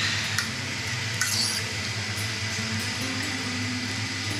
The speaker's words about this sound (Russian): Мы добавляем воду, мы добавляем сливки. Сливок добавляем хорошо, чтобы у нас был очень такой интересный вкус.